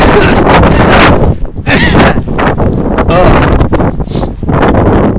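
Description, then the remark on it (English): Heavy wind buffets the microphone in a loud, continuous low roar that surges and dips in gusts for several seconds, with a faint voice occasionally breaking through underneath, as someone walks back from class holding a very big open umbrella. “It's a bit windy.”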